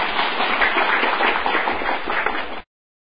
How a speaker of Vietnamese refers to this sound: Cho tràng pháo tay.